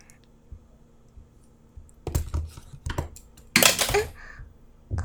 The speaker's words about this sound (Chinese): 笔掉了。不用，我来捡吧。